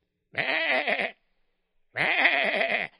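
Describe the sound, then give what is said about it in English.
A sheep bleats twice, each call about a second long with a quavering, wavering tone, separated by a short pause of silence. The bleats are clear with no voices. “The children were fascinated by the big black sheep.”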